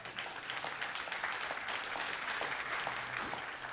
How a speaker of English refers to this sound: I'll pause there for an applaud to God.